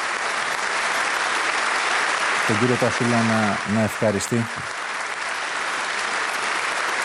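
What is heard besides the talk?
applause in parliament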